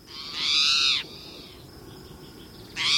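A spotted towhee, a common resident bird, gives a harsh, cat-like mewing call, loud, then a quieter pause before a second call starts and is cut off at the end. No one speaks.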